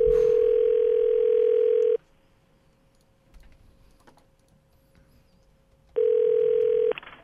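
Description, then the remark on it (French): A telephone ringback tone on an outgoing call to a McDonald's restaurant: a steady, loud electronic buzz held about two seconds, a long pause with faint clicking, then the tone returns for another second. “Ça sonne.”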